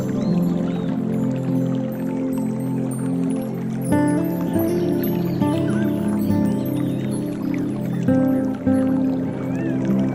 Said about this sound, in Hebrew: מרחוק אתם שומעים קולות של מים, וכשאתם צועדים לעבר מקור הקול אתם רואים מפל יפהפה שממש מזמין אתכם להתקרב אליו, לגוע במימיו, לעמוד תחתיו.